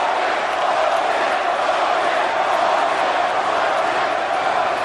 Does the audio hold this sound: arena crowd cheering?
yes